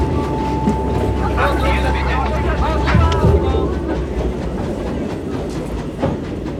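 A passenger train to Lyon, France rolls along the rails with a loud, steady rumble, irregular clacks of the wheels, and a thin high tone humming over the first seconds.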